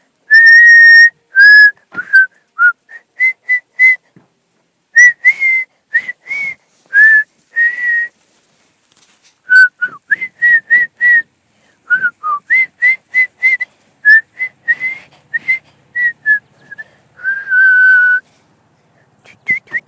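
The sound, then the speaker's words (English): Someone whistles a melody, clear and fairly loud, in short bouncing phrases separated by brief pauses, with no talking and little background noise. “I'm just gonna whistle.”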